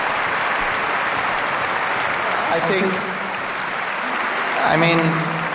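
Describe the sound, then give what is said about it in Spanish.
Steady, dense applause from many hands clapping continuously for several seconds on a tennis court, with Carlos Alcaraz among those applauding, and a couple of brief voices rising above the clapping. “Mira cómo aplaude Carlos Alcaraz sonriendo, el heredero que no quiere ni mucho menos coger la corona del rey aún.”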